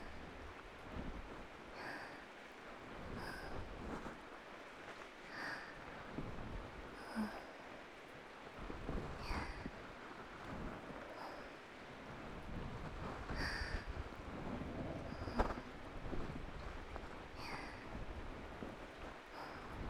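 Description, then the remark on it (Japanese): Heavy rain pours steadily in a dense, continuous wash, with brighter splashing surges recurring every couple of seconds and the downpour swelling slightly toward the end. No one speaks. “雨、少し強くなってきたね。天気予報は明日も雨だった気もするけど、どうだっけ。”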